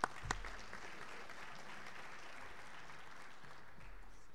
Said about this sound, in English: This year's, well, they deserve a round of applause anyway.